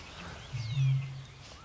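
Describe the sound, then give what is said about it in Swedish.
A Eurasian bittern close by in the reeds of a lowland lake on a calm, windless early-summer evening gives a single deep, hollow boom, a low resonant hoot lasting under a second, with faint bird chirps twittering in the background. “Men rördrommen har intagit solistrollen.”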